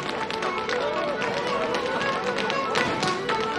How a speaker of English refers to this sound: Four step dancers file into the ballroom and head for the dance floor.